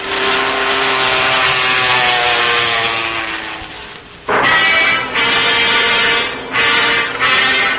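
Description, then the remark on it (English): An airplane engine drones loudly with a steady, buzzing hum, then starts sputtering, cutting out briefly and roaring back in uneven bursts as if failing. “Why, that's an airplane. And it seems to be in trouble.”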